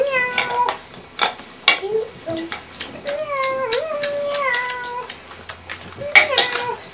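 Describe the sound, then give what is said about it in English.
A cat meows several times, drawn-out, wavering cries rising and falling in pitch, with a few short sharp clicks and taps in between. “Hello, pussycat.”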